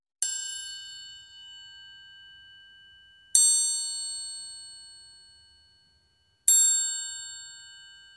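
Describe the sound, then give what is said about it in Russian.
Three clear, bright bell strikes spaced about three seconds apart, each ringing out with a shimmering metallic tone that slowly fades before the next. No voices. “«Слышите, как красиво звонят?» – спросил цыпленок.”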